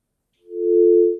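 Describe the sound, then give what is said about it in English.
A single steady, low-pitched phone line tone hums for under a second after a caller's call drops on a radio call-in line, swelling in smoothly and cutting off, with no voices present. “Oh, we lost a couple of people here. We've had a little trouble with our phones”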